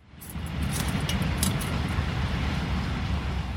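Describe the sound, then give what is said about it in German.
A passing train rattles and rumbles steadily at the gates of the Jewish cemetery in Linz: a deep, continuous roar with faint metallic clinks and squeals above it, swelling in over the first half second and holding loud throughout. “Das ratternde Geräusch vorbeifahrender Züge vermag an den Toren des Linzer jüdischen Friedhofs die Zeiten für einen Moment zu vereinen.”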